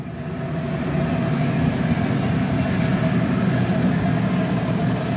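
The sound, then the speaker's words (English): A loud, steady roar of natural gas burning in the glass furnaces at the Blinko Glass works, where workers make glass vases and water bottles, a dense low rumble with a constant hum that swells in the first second and then holds evenly, with no talking. “The roar of natural gas in the glass furnaces is nearly overwhelming.”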